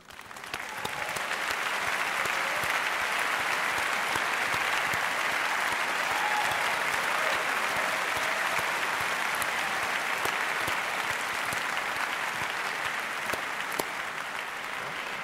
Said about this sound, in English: So, I would like to ask you for a big applause for Julian Assange, who will join us now.